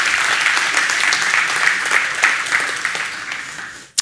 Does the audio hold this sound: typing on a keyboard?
no